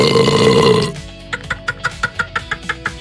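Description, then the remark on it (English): An action figure toy's loud, croaky burp sound effect, activated by squeezing its stomach, rumbles for about a second, then breaks into a quick run of evenly spaced, chuckling pulses, clear with no talking. “Just squeeze its stomach to activate burp action.”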